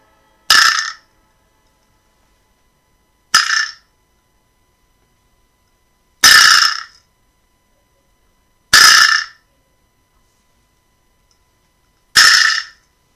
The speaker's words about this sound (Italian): Il Vibra Slap. Adesso andate un po' su Google e scrivete Vibra Slap. Ecco, questo è lo strumento di questa sera. Vibra Slap, ripetetelo.